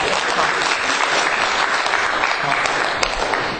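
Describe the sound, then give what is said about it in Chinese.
A group of people claps steadily for three people who shared how they read the Bible. It is a dense, even wash of applause that holds at the same loudness for several seconds, without any voices standing out. “好，很好，我给他们鼓掌一下，好吧？”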